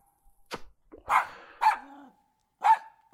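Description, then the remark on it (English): A puppy lets out a string of short, sharp, high-pitched barks and yips, four or five in irregular bursts, loud, with brief pauses between them. “Bad puppy dog.”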